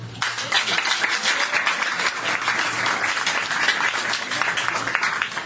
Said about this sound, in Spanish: Aplauso a Ondi Timoner, director y fotógrafo.